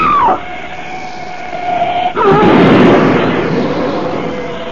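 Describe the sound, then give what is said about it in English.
A wavering, horn-like tone sustains for about two seconds, then a black shape with headlights, speeding down the road, smashes into Frederick Butler's car in a sudden loud crash of smashing metal that erupts into a roaring, noisy rumble and slowly fades. No one speaks. “That ugly black shape, it smashed Butler's car to bits as though it were an eggshell.”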